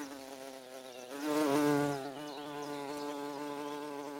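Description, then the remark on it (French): A bumblebee buzzes steadily in flight, its low droning hum swelling louder for a moment, then settling back to a constant buzz. “Leur nom, comme le mot bourdonnement et le verbe bourdonner, est l'ancien verbe dont il dérive bordonner, est probablement une onomatopée.”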